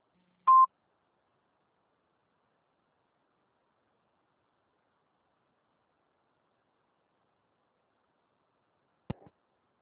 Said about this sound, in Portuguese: Por favor, deixar o seu recado após o bip.